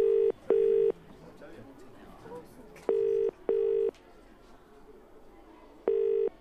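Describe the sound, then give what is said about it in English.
Telephone tones from a number being dialed: steady low-pitched electronic beeps in pairs, three double bursts spaced about three seconds apart, loud over a faint background murmur. “Although, I could make a quick call.”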